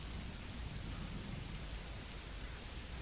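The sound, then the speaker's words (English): Steady rain falls continuously, a dense, even hiss of drops with a low rumbling undertone, constant in loudness throughout and with no voices. “The rain is manageable.”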